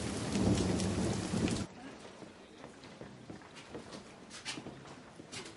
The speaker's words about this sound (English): What's it raining out? Raining? I almost drowned